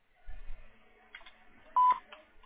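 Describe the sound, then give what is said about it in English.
A single short telephone tone on a voicemail system, a loud steady electronic beep lasting about a fifth of a second, preceded by faint low rumbling and muffled background sounds. “When you've finished recording, you may hang up or press 1 for more options. To leave a callback number, press 5.”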